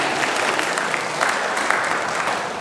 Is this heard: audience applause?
yes